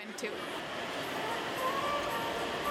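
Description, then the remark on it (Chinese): A steady whirring rumble of toy model trains running along their track at a holiday model train exhibition with miniature train stations, continuous, with indistinct crowd chatter murmuring underneath. “He likes that the trains are moving, and he can see the trains.”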